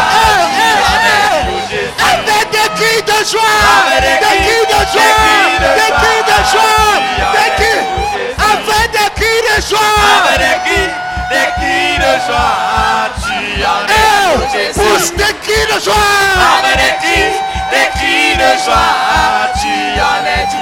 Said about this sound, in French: Pousse des cris de joie. Avec des cris de joie.